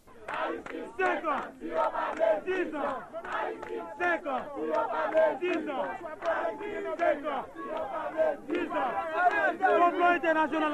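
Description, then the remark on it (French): A large crowd of supporters of Mr. Aristide shouting and chanting together in front of the palace, a dense, continuous roar of many voices with rising cries that stays loud throughout. “Le nou tap soti nan conférence de presse ça, nan palais a, nou te contré à gros foule partisan M. Aristide là devant palais a.”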